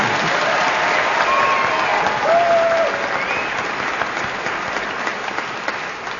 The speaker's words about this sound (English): I think I deserve a round of applause for that, don't you?